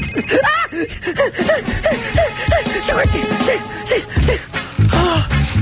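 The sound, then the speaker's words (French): A mobile phone rings with a repeating melodic ringtone, bright tonal chirps cycling over a busy, noisy background for several seconds. “J'ai cru que c'était lui, tu vois.”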